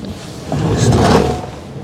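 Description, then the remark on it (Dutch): A house door in the centre of Aalsmeer is pushed shut after a dog is brought inside, with a soft, drawn-out sliding scrape and a muted thud, heard alone against a steady low background hum. “Ja, dan doe ik de deur.”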